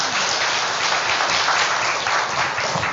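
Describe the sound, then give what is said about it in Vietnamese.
A crowd applauds steadily for a few seconds, a dense, even wash of many hands clapping at once, fairly loud, with no voices over it, welcoming a guest Buddhist monk as he stands up to be introduced. “Thì thầy Như Tú đứng lên cho bà con biết, cho anh tràng pháo tay trước rồi nói sau.”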